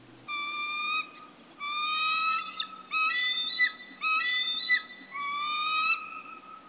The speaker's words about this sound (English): This Veterans Day week, the sound of a bald eagle opens an audio postcard for veterans and for currently serving members of the U.S. Air Force, Army, Coast Guard, Marines, Navy, Space Force, and National Guard.